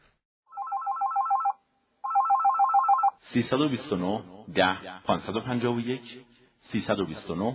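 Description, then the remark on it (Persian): A telephone rings twice with steady electronic trills, each burst lasting about a second and a half, signalling an incoming listener's phone-in question on the history program Porseman-e Tarikhi; a voice starts talking right after the second ring ends. “یه سوال تلفنی داریم با هم بشنویم.”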